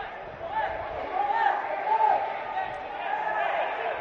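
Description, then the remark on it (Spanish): Several men's voices shout from the team benches placed in the stands of the empty Vallecas football stadium during a match without spectators, calling out over one another in a steady, continuous stream, with a few raised, sustained cries standing out, and no crowd roar behind them. “¿Cómo se escuchan los gritos, eh?”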